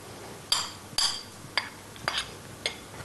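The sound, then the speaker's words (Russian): Utensils clink sharply against dishes about six times at an irregular pace as finely chopped onion is added, bright metallic taps over a quiet background with no talking. “Сюда добавляем мелко нарезанный лук.”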